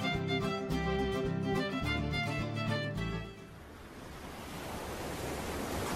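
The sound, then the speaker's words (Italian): A few seconds of music cut off abruptly, giving way to a steady, full wash of ocean surf breaking on the shore that continues to the end, with no voices. “Ma guarda quelle onde, Johnny.”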